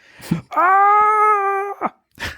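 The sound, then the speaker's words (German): A man lets out a single loud, sustained scream lasting over a second, held at a steady, strained high pitch, framed by brief breathy gasps before and after, as he falls from a large letter to the ground. “Alle hörten den Schrei, fuhren herum und bekamen noch mit, wie”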